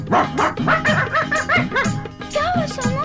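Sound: dogs barking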